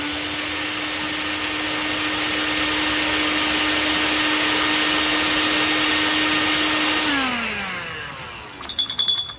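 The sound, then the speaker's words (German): An immersion blender whirs loudly and steadily for about seven seconds, pureeing peeled, pitted fruit pulp for sorbet, then winds down with a falling pitch and stops, followed by a few soft clunks. “Dann hole ich direkt mal den Pürierstab und dann wird das Fruchtfleisch zu Püree verarbeitet.”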